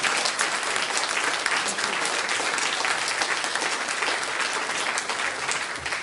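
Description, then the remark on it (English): A church audience gives a hand clap of praise to the Lord, a dense, steady burst of applause that stays loud and even for about six seconds, with no one speaking over it. “How about a hand clap of praise?”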